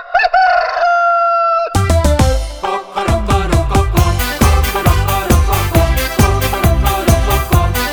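A rooster crows once, loud, opening a jingle from Madeira, before an upbeat band with driving drums and rhythmic instruments kicks in and plays on.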